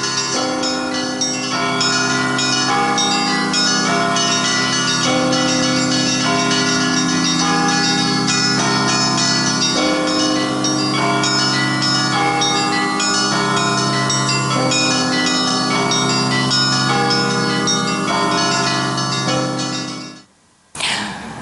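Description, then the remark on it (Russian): Church bells in the bell tower of a town's tallest church, rung at Easter amid snow and wind, peal loudly and continuously, many overlapping bell tones ringing together in a dense, resonant clangor before cutting off abruptly near the end. “Однако даже эти скорбные обстоятельства не испортили нам пасхального настроения и не отбили желание подняться на колокольню самого высокого в городе храма и позвонить в колокола.”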